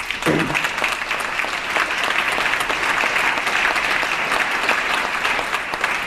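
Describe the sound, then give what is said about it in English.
Sustained applause from a large audience, including Republicans, after a call to streamline California's regulatory procedures; a dense steady wash of clapping that holds at an even level throughout, with a brief voice or cheer near the start. “That gives the Republicans something to clap about.”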